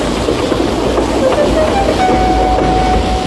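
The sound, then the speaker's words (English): A steam train, Edward the engine, sets off first with his train, rumbling steadily along the rails, loud, with a thin high whistle-like tone drifting in partway through over the continuous churning noise. “So now he set off first.”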